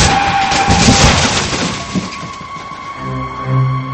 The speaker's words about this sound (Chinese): 紧接着就听到一声巨响，那辆载重卡车竟直直地撞在了停在路边的小小的富康的身上。一切发生得如此突然，犹如白日做梦一般。在腾起的烟尘中，被显渺小的富康轿车被庞大的载重卡车挤压得顿时变了形，迅速地向路基的一侧飞去。